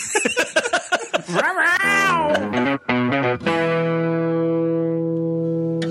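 A house cat's meows, warped and electronic-sounding, rise and fall in quick bursts. They end in a long, loud, steady drone with no talking.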